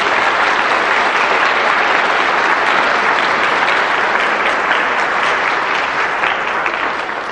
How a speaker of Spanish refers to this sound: Y no solo los quiero yo, los quiere toda esta gente que les va a dar un aplauso en este momento.